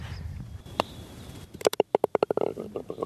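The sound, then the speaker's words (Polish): A golf ball drops into the hole: a single sharp tap, then a quick run of bright clattering bounces that speed up and fade as it settles in the cup. No one speaks. “A tak, właśnie, słyszeliście ten dźwięk, taki blum.”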